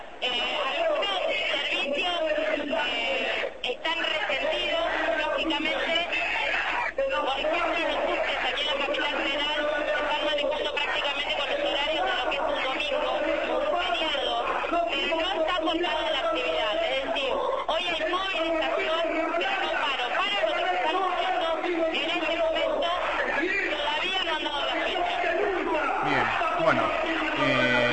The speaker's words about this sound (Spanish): La gente grita, paro general, mientras el está hablando.